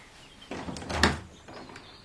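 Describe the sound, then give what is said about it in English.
A French window swings open with a brief creak and a sharp rattle of the latch at its peak, then a softer knock as it settles. “There's somebody at the French windows.”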